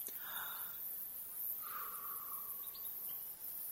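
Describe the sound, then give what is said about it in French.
Soft, scattered bird calls at a forest edge over damp ground, over a low hiss of outdoor ambience: a drawn-out whistled note, then a few brief high chirps, all quiet. “Terre humide, un oiseau, deux, trois, lisière de forêt, une tierce forêt.”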